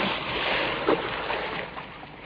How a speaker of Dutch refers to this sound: waardoor Fransje met een wijde boog en grote plons in het water terecht kwam